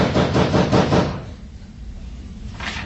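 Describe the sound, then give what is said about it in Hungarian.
A quick run of about five firm knocks on a door, fairly loud and evenly spaced, followed by a pause of low background noise and one more brief knock at the end. “Mint ha kopognának. A fene ezt az ajtót.”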